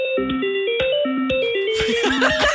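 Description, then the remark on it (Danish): Telephone hold music, played when a caller on the phone line puts the call on hold: a simple, tinny electronic melody stepping through bright synth notes at a steady pace, with some muffled background noise joining in near the end. “Er du klar over, Natasha, at du kan sætte os på ventemusik?”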